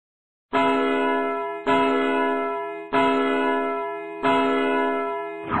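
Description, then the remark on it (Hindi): An old grandfather clock strikes twelve with deep, ringing bell tones: four loud, evenly spaced chimes about a second apart, each ringing out and fading before the next. No voices. “क्यों बज गए 12? दादाजी, अनबिलीवेबल। पुरानी घड़ी में की गद्दारी, एस विद सम समझदारी।”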